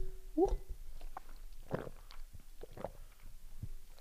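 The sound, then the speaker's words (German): Quiet mouth sounds of someone sipping water and swallowing: a short slurp followed by several soft, wet gulps spaced about a second apart, with no talking. “Erstmal einen Schluck Wasser trinken.”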